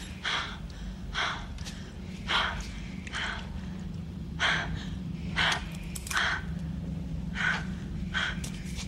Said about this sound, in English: I mean, all these sounds just being heightened. Like, you hear the scratch of her fabric. You hear her breathing. You feel, like, almost as though you're blind because of how kicked up all the vocals are.